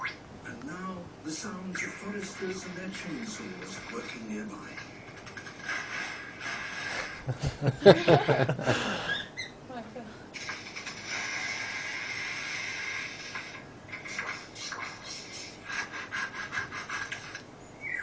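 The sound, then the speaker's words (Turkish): A bird mimics a tree saw with harsh, raspy buzzing strokes, fairly loud. The rasping peaks in a dense burst midway, alongside earlier warbling whistles and scratchy mechanical noises. “Ağaç testeresi sesi çıkartacak birazdan şimdi.”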